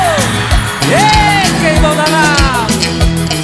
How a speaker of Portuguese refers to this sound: Cadê o gritinho da mulherada solteira aí, baixo?